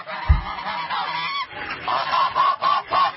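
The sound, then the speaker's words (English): Honking duck calls sound in a loud, busy flurry, then break into a string of distinct, evenly spaced honks toward the end, with no voices present. “Ah, there's that lame duck Congress already swarming around me, and we've just begun on this hour of ATN.”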